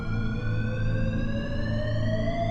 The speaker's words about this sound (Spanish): Íbamos a empezar a buscar a nuestros alrededores cuando sonó una de las alarmas.